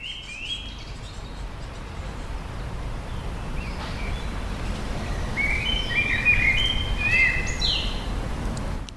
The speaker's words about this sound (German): Und nun hören wir mal ein paar Vogelstimmen von draußen im Garten des Mutterhauses